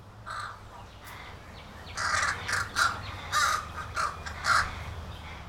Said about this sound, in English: Oh, wow, there are the new neighbors. The new family here in the green goes by the name Corvid. No, I didn't see it on their mailbox, unless it might be airmail. They're American crows, members of a big bird family, the Corvids.